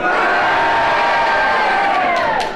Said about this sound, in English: And if you agree with it, will you please cheer? If you disagree, will you please boo? And will you all do it together now?